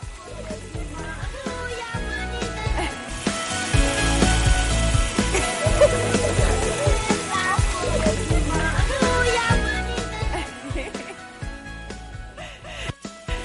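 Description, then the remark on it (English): Steady running and splashing water at a community water distribution point where the water is pumped, with sloshing bursts and a busy outdoor bustle; voices, including children, murmur faintly underneath. “This morning we saw a water distribution station where all the water gets pumped from there.”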